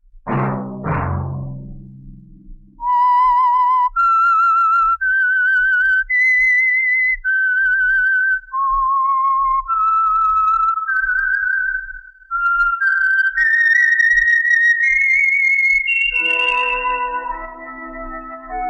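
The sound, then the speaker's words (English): A solo whistled melody, the signal for the Signal Oil program The Whistler, moving through sustained pitched notes in a slow, eerie tune with brief pauses between phrases, preceded by a short low rumble. “That whistle be your signal for the Signal Oil program, The Whistler, each Sunday night at this same time.”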